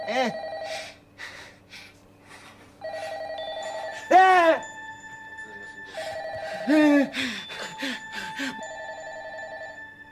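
A telephone rings in repeated bursts of steady electronic tones, clear, with brief gasps and reactions from people in between the rings; the call is from an unknown number.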